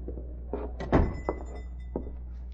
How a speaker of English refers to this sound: He opened the shop door and nonchalantly entered.